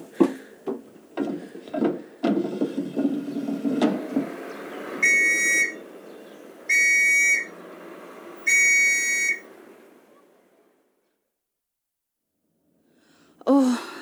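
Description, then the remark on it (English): After some clattering and rustling noises, three loud, shrill blasts are blown on a whistle out of an open window, each lasting about a second with short pauses between. Then quiet follows. “You take this whistle, open that window, and give it 3 good blasts.”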